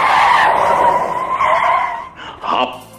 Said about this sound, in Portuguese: Aí o Chevette deu uma rabiada com os pneus careca no asfalto. Deu uma rabiada.